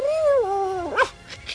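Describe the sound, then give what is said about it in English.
A dog, Metric Dog, lets out a drawn-out whimpering whine that slides downward, then a short sharp yelp-like burst, followed by a couple of faint, brief noises. It is moderately loud, with no talking. “What's that, Metric Dog?”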